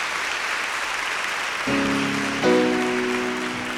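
Steady audience applause for Love Center and its pastor and choir director at a moderate level; partway through, sustained keyboard or organ chords come in underneath the clapping.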